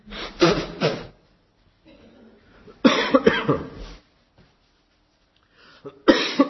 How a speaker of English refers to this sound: Will you excuse me while I just blow my nose?